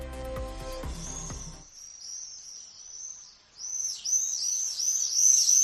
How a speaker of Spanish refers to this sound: Este es el canto del vencejo común.